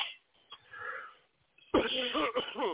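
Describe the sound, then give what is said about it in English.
After a quiet, muffled stretch, a burst of harsh, raspy coughing erupts from someone who inhaled smoke that went down the wrong way, several rough hacks in quick succession with a wheezy, strained edge. “As you see, I still got the smoking coughs.”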